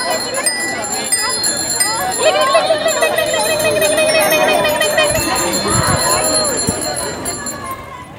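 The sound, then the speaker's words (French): Many bicycle bells ring at once in a dense, overlapping jangle during a mass women's group bike ride (vélorution) setting off from Cours Julien, carrying on steadily for several seconds, with crowd voices and outdoor bustle underneath. “Non, j'ai pas de sonnette, c'est nul!”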